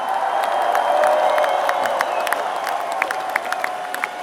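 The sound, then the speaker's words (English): A festival crowd at Vodafone Home Ground 2008, at the Jim Beam Rock Stage, applauds and cheers for all the bands who played there that evening. A steady, dense wash of clapping, with sharp individual claps and a few whistles or whoops poking through, holds the same loud level throughout. “Can we please give a big round of applause to all the bands who have played on here this evening?”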